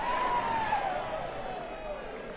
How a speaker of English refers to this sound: Round of applause for our crew, please.